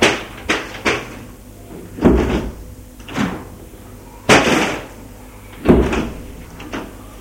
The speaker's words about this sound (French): Madeleine a entendu la porte se refermer derrière elle. Elle a l'impression que la porte de sa cellule vient de se fermer.